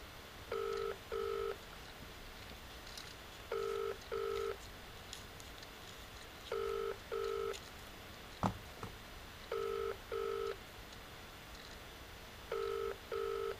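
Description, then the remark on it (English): A telephone ringing tone heard down the line: steady double-pulse burrs repeating about every three seconds, five cycles in all, with a single sharp click midway and no talking. “Phone then.”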